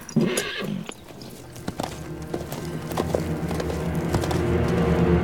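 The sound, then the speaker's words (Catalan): A horse whinnies near the start, followed by a steady series of hoof clops on a hard surface, fairly loud, with the animal shifting and snorting throughout. “I gira cua cap al cavall.”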